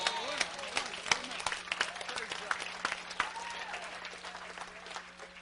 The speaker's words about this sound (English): Give God a big clap offering right there. Praise God.